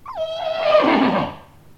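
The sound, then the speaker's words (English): A single loud horse whinny, rising sharply then holding a wavering, harmonic-rich cry before trailing off, with no talking around it. “That was one of my horses.”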